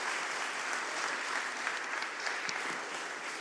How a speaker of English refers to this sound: So can we just give them another round of applause?